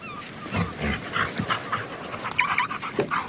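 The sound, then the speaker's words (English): A dog named Lisa shakes itself off: a rapid flapping rustle of fur and ears lasting a few seconds, with soft panting and faint whimpers mixed in. No one speaks. “Ah, don't go shaking yourself all over me like that, will you?”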